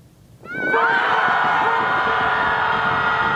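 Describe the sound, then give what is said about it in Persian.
After a brief quiet moment, a group of people at a group screaming gathering on the lakeshore in downtown Chicago, USA, bursts into a loud, sustained collective scream, many high voices blending into one steady wall of sound that holds to the end. “از راه داد زدن، فریاد زنی گروهی.”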